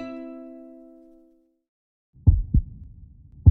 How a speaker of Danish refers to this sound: Dit hjerte banker. Altid. Både når du løber, men også når du sidder stille og når du sover. Og vidste du godt, at hjertet er en muskel? Når den trækker sig sammen, så pumper den blodet og ilt rundt i din krop og får det hele til at fungere.